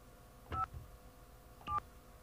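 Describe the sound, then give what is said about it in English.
Two short telephone keypad DTMF tones from dialing a phone number, evenly spaced about a second apart, each a steady dual-pitched beep lasting a fraction of a second over faint background hiss. “Hey, I can decode DTMF in my head.”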